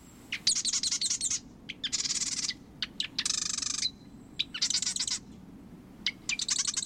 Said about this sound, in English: Then, sitting high atop a perch in the marsh, he sings his sewing machine-like song, inviting a female to select a nest in his territory.